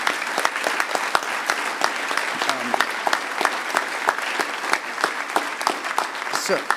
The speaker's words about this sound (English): Huge round of applause for the red shirts, the volunteers.